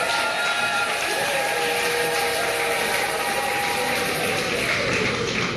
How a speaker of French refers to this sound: Applaudissez vos maris.